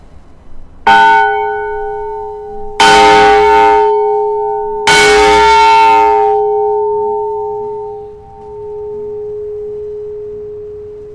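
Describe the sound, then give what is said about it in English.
A large, heavy former fire emergency warning bell, about the size of the Liberty Bell, made by Naylor Vickers and Company of Sheffield and numbered 890, is struck three times at steady intervals, each clang ringing out loudly and the deep hum lingering and slowly fading after the last strike. “Levon is going to chime the bell that used to serve as an emergency warning of a”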